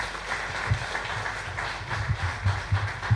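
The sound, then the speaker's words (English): An audience claps together in a steady, dense burst of applause, given to participants for trying, that carries evenly through the short stretch, with some low thumps and no one speaking. “Can we give them a big round of applause for trying?”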